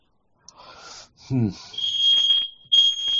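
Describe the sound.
A smoke alarm, set off by a fireplace being on, sounds a loud, piercing high-pitched tone that holds steady, breaks off briefly, then resumes, while people talk over it.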